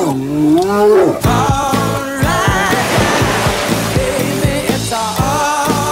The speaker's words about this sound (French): Ne bougez pas, il y a un ours derrière nous.